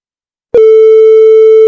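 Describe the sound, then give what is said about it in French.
After a brief silence, a loud, steady electronic beep from a telephone answering machine starts abruptly and holds one unwavering pitch for over a second. “Pas de chronique ce soir, mais je vous propose qu'on écoute le répondeur.”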